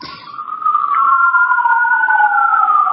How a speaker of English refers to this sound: Hello? I'm listening to, I'm waiting for the sirens to get by. Okay. That was very dramatic. That doesn't get to happen here very often.